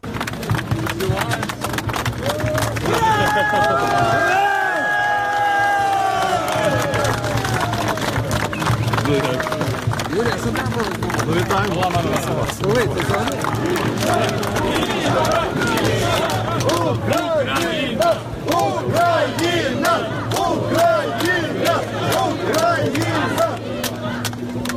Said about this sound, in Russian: теперь мы посмотрим вот эти вот секунд радостного приветствия, торжества на львовской земле, как встречали Михаила Саакашвили